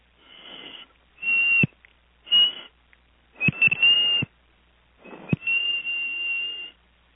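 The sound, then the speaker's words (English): A person whistles a simple tune in five breathy phrases, the notes mostly held steady with short pauses between them. The whistling is fairly loud, with no talking. “I'm going to see if I can whistle this off.”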